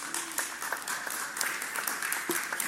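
A crowd applauds steadily, many hands clapping at once in a dense, continuous patter that fills the room at moderate volume, with no voices standing out.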